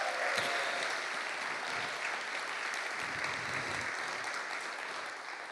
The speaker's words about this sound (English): Can we start off with a wonderful round of applause for our interpreters